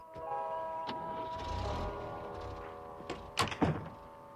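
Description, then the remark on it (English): Big Edie pulls a door shut behind a departing man with a solid thunk, followed by a brief rattling knock, over a steady low hum; a couple of faint clicks come before it. “Looking devastated, Big Edie shuts the door behind him.”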